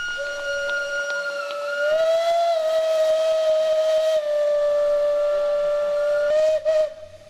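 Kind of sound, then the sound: vehicle, steam locomotive whistle blowing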